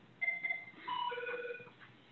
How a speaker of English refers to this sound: We have a phone ringing, but we will keep going.